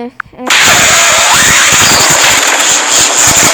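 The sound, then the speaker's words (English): A Force lightning sound effect of lightning coming from a character's hands: after a short faint tone, a loud electric crackle bursts in and sizzles steadily for about three seconds, full of rapid snapping pops. “It's lightning coming from his hands. Force lightning.”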